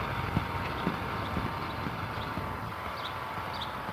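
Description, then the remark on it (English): A big four-wheel utility cart driven by a city worker rolls past a line of posts, a steady rumbling noise broken by scattered clunks and rattles, with no one speaking. “One of the city workers is... got one of the big four-wheel utility carts that I call a goat.”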